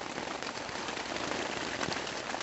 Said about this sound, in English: Where it was sunny just 30 minutes before, rain now battered the thin tent fabric. The wind pulled at the rainfly, and I could have sworn each clap of thunder was right above our campsite.